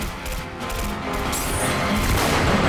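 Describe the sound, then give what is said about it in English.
Loud blasts from a sawn-off shotgun, pulled out of a guitar neck and fired at a falling man, ring out amid a dense, chaotic wash of crashing noise and echoing gunfire, sustained with no talking. “He pulls a sawn-off shotgun out of the guitar neck and shoots the man as he falls.”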